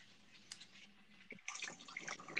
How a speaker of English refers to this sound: Over there doing the dishes.